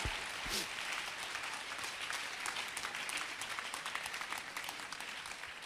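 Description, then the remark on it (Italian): Steady applause from a crowd, a dense crackle of many hands clapping at an even loudness for several seconds, with no one speaking over it. “Ti amo, ti adoro, ti lodo, ti glorifico, ti applaudo.”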